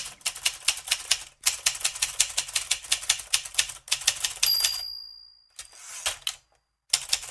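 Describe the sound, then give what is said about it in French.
An Olivetti manual typewriter clatters in quick, uneven bursts of keystrokes, then its bell dings, followed by a brief pause and a few more mechanical clacks. “C'est pas un clavier d'ordinateur, c'est une bonne vieille machine Olivetti.”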